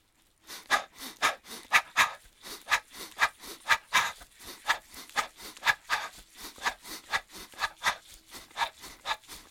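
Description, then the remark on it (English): Quick, rhythmic breaths in and out through the mouth, fairly loud, repeating at a steady panting pace for several seconds with no talking, as part of a guided breathing exercise. “So here we go, breathing in and out through your mouth.”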